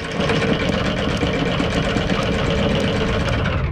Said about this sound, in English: A sleeping, blonde-haired woman's bedside alarm goes off at 6 o'clock. A light flashes on and off, and the bed vibrates until she wakes up.